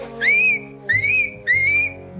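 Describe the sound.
A person imitates the call of the Loch Ness monster, Nessie, with three loud, high whistling cries, each swooping up and holding a shrill, steady tone, with short pauses between them.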